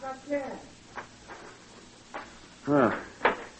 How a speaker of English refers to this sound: Now get this door open